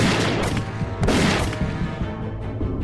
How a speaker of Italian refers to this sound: Poi, all'improvviso, nel silenzio della valle, uno sparo e subito dopo un secondo.